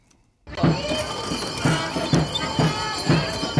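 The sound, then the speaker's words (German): Horse hooves pulling a sleigh start after a brief silence, beating in a steady, even rhythm over a dense, bright rushing and jingling background, fairly loud. “Erraten Sie, wer hier in den Pferdeschlitten steigt.”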